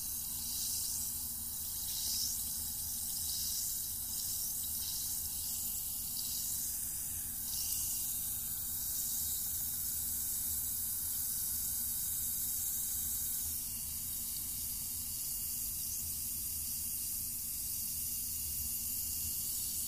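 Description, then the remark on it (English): Liquid fizzes and hisses steadily throughout, with a dense bright sizzle and faint crackling pops of bursting bubbles, especially early on; no one speaks. “You can really hear it fizzing.”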